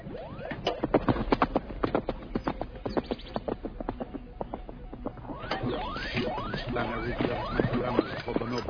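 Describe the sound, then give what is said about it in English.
Horse hooves clip-clop steadily on a hard surface, a quick run of sharp, hollow knocks at moderate loudness, with no voices. “What are you doing on a horse?”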